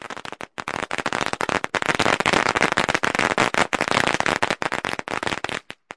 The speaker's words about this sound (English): Our next word, firecrackers. Firecrackers. Firecrackers. Firecrackers. This is a firecracker.